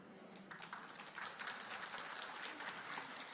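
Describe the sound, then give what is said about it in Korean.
A church audience claps steadily, many hands blending into a dense, continuous patter that holds at an even level for a few seconds, with no voices standing out. “박수 안 치는 인간은 내가 예수 믿으면 너같이 살 것 같아서 내가 안 다닌다.”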